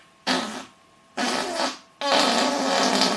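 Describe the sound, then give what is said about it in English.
Someone imitates fart sounds using their hands, with three buzzy blasts: two short raspy bursts separated by brief pauses, then a longer, louder sputter. No speech is heard. “But that's what it sounds like when you've got gas or when you fart a lot.”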